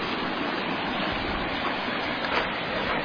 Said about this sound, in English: There we are. The update of the floodwaters of Chattahoochee Creek.